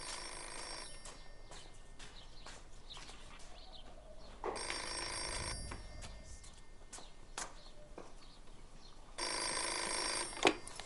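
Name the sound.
landline telephone bell ringing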